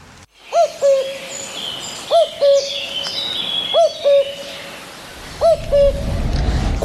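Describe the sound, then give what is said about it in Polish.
A cuckoo call repeats four times at an even pace, each a clear two-note "cuck-oo" ringing out prominently over a faint hiss of background noise. “Ojejku, zabrzmiała kukułka.”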